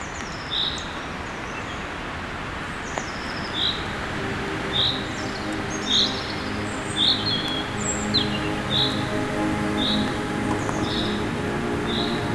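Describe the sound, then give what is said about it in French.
Forest ambience in the middle of a forest, sheltered from the wind: a steady low background wash with a bird repeating short, high chirps roughly once a second, about a dozen of them, fairly even in loudness, with no voices. “Au beau milieu de la forêt.”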